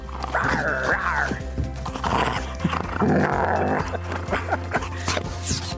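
Two Doberman dogs growling: drawn-out, rumbling grumbles with whiny, almost vocal inflections that rise and fall across several bursts, with no one talking.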